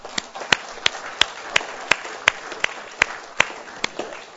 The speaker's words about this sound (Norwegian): Och jag måste säga, si, alltså jag syns alla de, jag ska inte nämna namn, ska vi ge dem en ordentlig klapp.